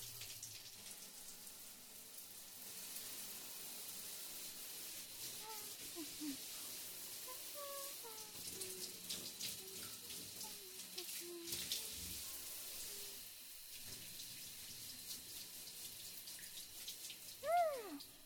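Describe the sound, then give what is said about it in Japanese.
A steady hiss of shower water spraying and splashing continuously onto a body, with faint drips and gurgles scattered through it and a brief louder splash near the end. “では次は体の方にシャワーかけますよ。”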